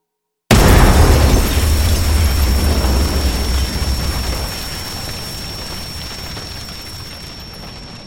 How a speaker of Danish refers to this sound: Den brune kuvert indeholdt en brevbombe så kraftig, at da han åbnede kuverten, blev han blæst bagover med voldsom kraft. Så voldsom, at hans hoved og hænder blev revet af.